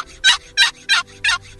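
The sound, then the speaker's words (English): A series of five evenly spaced, raspy turkey yelps played on a box call, the basic yelp made by pulling the lid across without lifting it, used to call fall turkeys; loud, with a steady rhythm and no talking. “Those yelps right there, you can call fall gobblers, hens, or poults with yelps.”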